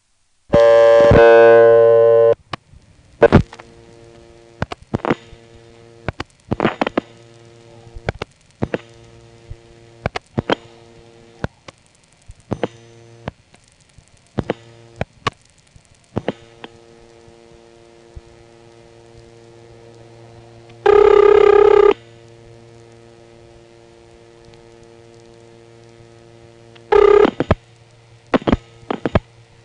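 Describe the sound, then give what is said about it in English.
An odd, buzzy telephone ringback tone of a call to an office in Weyers Cave, Virginia, sounds in a few loud bursts separated by long gaps, with scattered clicks and a steady low electrical hum running underneath. “The spelling on that is W-E-Y-E-R apostrophe S, but when you hear the ringtone in this office, you might want to spell it W-E-I-R-D.”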